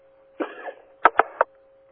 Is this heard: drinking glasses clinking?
no